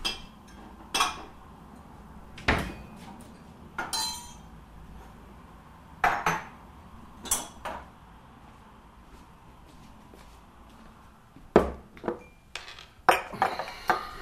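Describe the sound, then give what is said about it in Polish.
Martini being poured over ice in a glass, heard as a series of sharp clinks and taps of ice and glassware at irregular intervals, with quiet pauses between. “Może odrobinę martini. Z lodem? Oczywiście.”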